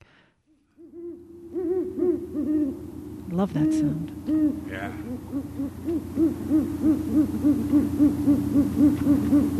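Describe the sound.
Great horned owls hoot while copulating, in a long, steady series of deep, repeated notes, fairly loud, running almost the whole clip, with a brief spoken remark near the start.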